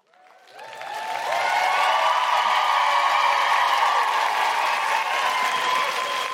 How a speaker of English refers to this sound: So we'll start here and then we'll go up to here on the clapometer. So you clap when you're feeling it.